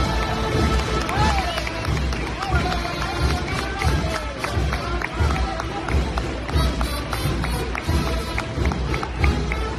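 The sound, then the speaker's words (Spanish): A crowd applauds steadily for several seconds during a religious procession as the image of the Virgin arrives at the town hall, carried backwards to music from the band. Scattered sharp claps layer over a dense murmur of voices and general crowd noise, fairly loud and continuous throughout. “Esos aplausos eran, Mario, porque como bien comentaba antes, la Virgen anduvo hacia atrás en varios momentos de ese recorrido, uno de ellos este precisamente, a los sones de la agrupación musical.”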